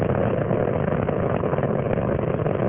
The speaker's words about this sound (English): 37 seconds into the flight, three liquid fuel main engines now throttling back in a three-step fashion to 72% of rated performance. That will reduce the stress on the shuttle as it breaks through the sound barrier.